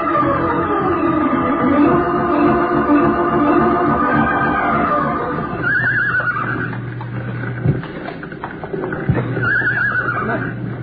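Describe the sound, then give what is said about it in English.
Frightened horses in a burning barn whinny repeatedly in loud, shrill, frantic cries that rise and fall, kicking, over a constant low rumbling roar with occasional sharp knocks. “Horse is over here. You can hear it. They're really scared.”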